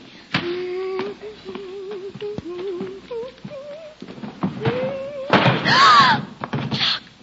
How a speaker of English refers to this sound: Now it so happened that one day while Greta was dusting, she opened the door to the treasure cupboard.